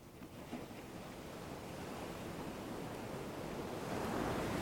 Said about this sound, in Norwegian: Hør bølgene rulle opp på stranden og bli dratt tilbake.